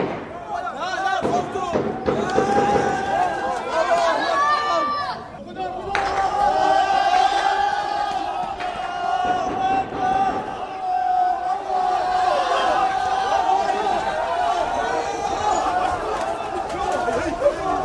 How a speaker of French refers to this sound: La foule s'en va en courant apparemment.